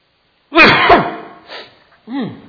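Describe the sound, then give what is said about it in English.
A single loud sneeze bursts out with a strong voiced onset, followed by a short breathy exhale and a brief vocal sound as it trails off. “The only time we really use the word blessing anymore is when somebody sneezes.”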